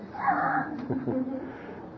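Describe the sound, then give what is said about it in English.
A dog named Larry whimpers and squeaks with thin, high-pitched whines, a drawn-out cry at first followed by a few shorter, wavering yelps, moderately loud over a low background rumble. “I think we're going to have to quit. Larry's starting to squeak.”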